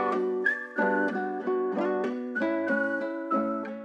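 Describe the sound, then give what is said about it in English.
A catchy whistled melody hook, whistled by the song's own rapper, rides over a full, loud music backing, its short notes repeating in a bouncy, steady rhythm with no voices. “And there's the whistle hook, obviously, that sticks in your mind.”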